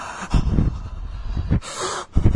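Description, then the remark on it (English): Several loud, heavy breaths drawn and pushed through the nose, a person deliberately making an eerie, creepy snorting breathing sound with no talking. “I should have just did a noise, the nose breathe on that.”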